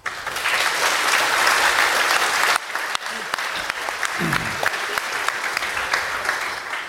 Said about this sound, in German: Also vielen, vielen Dank dafür, weil ohne euch wäre diese Konferenz nicht möglich. Ich finde, das verdient Applaus.